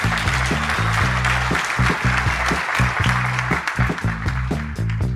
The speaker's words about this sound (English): A round of applause for everybody who shared a story.